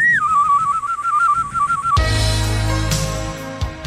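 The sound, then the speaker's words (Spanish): A battery-powered novelty whistling keychain that whistles automatically at the first small noise, such as a fart, gives a shrill electronic whistle with a steady warbling trill for about two seconds, then cuts to a loud, rough, rumbling burst of noise that fades out. “Solo puje con fuerza y su llavero chiflará automáticamente al primer ruidito.”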